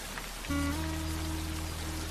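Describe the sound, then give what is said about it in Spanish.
Heavy rain pours down in a steady, dense hiss with no talking, and a low sustained droning tone joins in about half a second in and holds to the end. “Caían gotas de agua muy fuertes y todas las hormigas de las familias despertamos asustadas sin saber qué debíamos hacer.”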